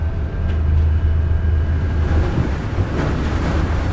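The icebreaker ship Bollard, heading north against the river current, throttles up and slams into a large chunk of stacked river ice: a heavy, steady low rumble of engine and hull with a few sharp cracking bursts scattered through the noise, loud throughout, no voices.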